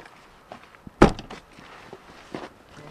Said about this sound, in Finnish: Siellä, mikä siellä? Kukkoko siellä kiekuu? Aitan ovi.